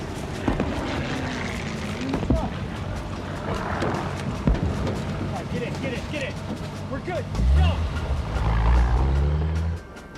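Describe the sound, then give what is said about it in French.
A truck engine rumbles low amid a busy, noisy scene at the outpost where a man waits in the truck, swelling louder near the end, with indistinct voices and clatter mixed in. “À l'avant-poste, … les attend dans un camion.”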